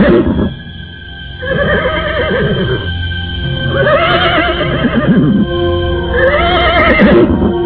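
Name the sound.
horse neighing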